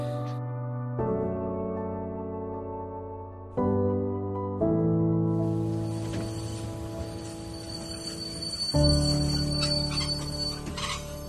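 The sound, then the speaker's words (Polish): Busy ambience at the railway station in Przemyśl, Poland, where a refugee reception point is run: a train's low, droning engine hum shifts pitch in steady stages, then high metallic squealing and a broad rushing hiss swell in, fairly loud. “Znajdujemy się na dworcu kolejowym w Przemyślu, gdzie jako urząd miejski prowadzimy punkt recepcyjny dla uchodźców.”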